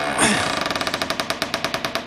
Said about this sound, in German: Ja, wollen wir für das Feedback vielleicht mal in die Kirche hineingehen? Warte, ich mach mal die Tür mal auf.